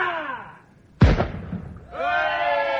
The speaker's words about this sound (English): Speak in the voice of thunder. Command the cannon to fire in salute.